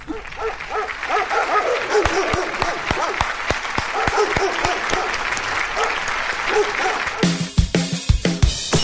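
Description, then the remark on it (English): Dog barks sequenced at different pitches to play a Christmas song, a quick, steady rhythm of loud yips with musical backing, ending in a brighter, noisier stretch. “Everybody wins except us who's listening to the Christmas dogs.”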